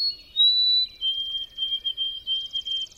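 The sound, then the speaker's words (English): A wintering white-throated sparrow sings in sunny November weather: clear, pure whistled notes, a long high tone dropping to a steady lower one, ending in a quick series of repeated triplet notes. No one speaks. “And sunny November weather may inspire wintering birds like this white-throated sparrow to burst into song.”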